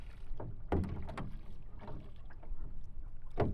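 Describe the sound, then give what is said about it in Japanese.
Oars row a boat, dipping and pulling through water in a handful of splashy, unevenly spaced strokes, moderately loud over a steady watery wash, with no voices. “ほら、ボートを漕いだり、周りから聞こえてくる自然の音が、深い催眠状態にあなたを誘う。”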